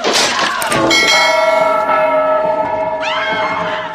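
bell ringing

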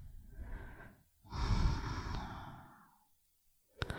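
slow deliberate breathing

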